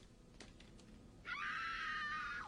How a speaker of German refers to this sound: Wie wär's mit ein paar Schreien? Schreie sind gut. Jetzt gebt mir mal Schreie rein.